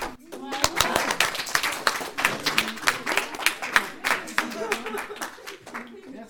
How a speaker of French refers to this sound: On applaudit.